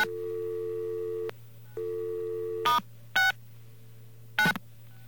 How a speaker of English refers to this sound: Now we're going to dial star 69. And it hung up our phone. Well, that's the BAI phone system.